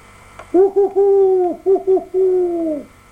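Clear owl hooting: two short hoots, a long drawn-out one, then two more short hoots and a final long hoot, heard alone with no talking.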